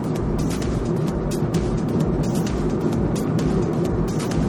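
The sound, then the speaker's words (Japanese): A steady engine and road rumble from inside a car driving along a rural farm road around 8:30 on a Saturday morning, with few oncoming cars; constant low-frequency hum and occasional faint ticks and bumps, no voices present. “今ですね、ちょっとこう農道みたいなところをちょっと走っておりますが、それ違う車もですね、またまばらですね。”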